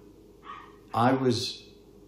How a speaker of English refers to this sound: I will give a review of your fucking dog in a minute. Yapping little wretch.